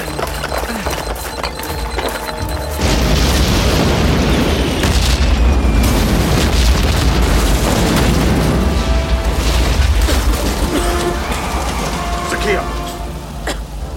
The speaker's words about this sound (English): That was quite the explosion.